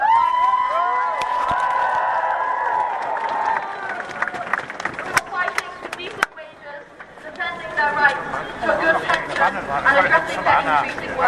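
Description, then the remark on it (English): A crowd at a Youth Strikers climate rally cheers loudly in solidarity with the UCU strikers, many voices whooping and shouting together, then the cheering gives way to scattered clapping and chatter toward the end. “We would especially like to extend our solidarity and give a loud cheer to the UCU Strikers.”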